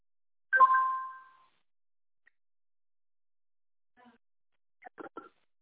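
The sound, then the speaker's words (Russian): A single phone text-message chime rings out clearly and fades over about a second as an SMS with a code arrives during a login setup, followed by silence and then a few faint, brief spoken syllables. “Так, смс-ка пришла.”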